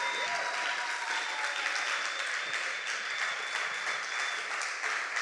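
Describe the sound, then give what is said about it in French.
A church audience cheers and applauds, shouting for joy in honour of Jesus, in a dense, continuous roar of clapping and shouts that holds steady and loud throughout, with a thin high whistle-like tone threading through the noise. “Est-ce qu'on peut pousser de grands cris de joie pour Jésus?”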